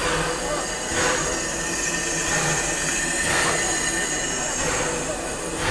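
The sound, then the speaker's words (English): A heritage steam train, engine 6A, rolls by while people take photos, a continuous loud rumble with high metallic wheel squeal and periodic surges roughly every second or so. “Yes, it's Puffing Billy again. Everyone's taking photos. It's engine 6A this time.”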